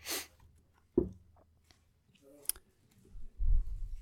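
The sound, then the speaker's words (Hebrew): Brief papery rustling of the pages of one of Rabbi Yehuda Leon Ashkenazi's books being handled, with scattered soft clicks and taps, followed by a low muffled thump of handling noise. “אחד הספרים שלו, כן, הנה כאן יש דפים.”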